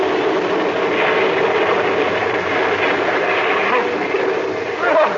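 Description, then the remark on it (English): A big wave breaks over a ship's deck during a storm as a steady, loud roar of rushing water, holding level for several seconds with a slight surge at the end. “There's a big wave coming aboard. Hold on, Billy. She's going to sweep the deck.”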